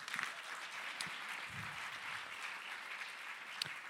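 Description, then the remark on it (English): A conference audience applauds steadily, a dense wash of many hands clapping, with a few sharper individual claps popping out near the start and end. “So let me applaud you for that, too.”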